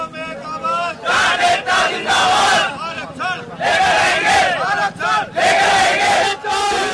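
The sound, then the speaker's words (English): A large crowd of protesters outside Delhi, India shouts and chants in loud, overlapping bursts, many voices rising together in harmonic cries with brief dips between surges. “The sounds of protests outside Delhi have left 19 dead and affected the area's highway and water system to millions of people.”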